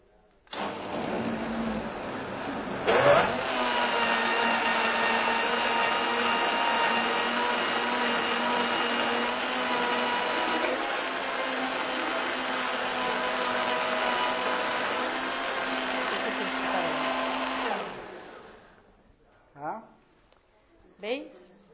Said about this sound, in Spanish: También dos máquinas son necesarias para lo que explica, una buena licuadora y una buena batidora.